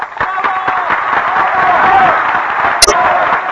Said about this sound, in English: The audience has been shouting for an encore, and now the great contralto appears again on the stage.